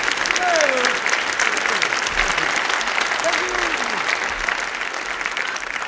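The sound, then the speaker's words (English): Steady applause from an audience fills the whole stretch, dense and sustained, with a few faint voices rising briefly above the clapping. “Stop that anti-sequel applause.”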